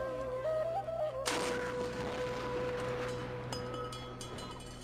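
A single heavy iftar cannon blast, fired to mark the breaking of the Ramadan fast, erupts suddenly after a steady humming tone, then rolls into a long, rumbling echo that slowly fades over several seconds.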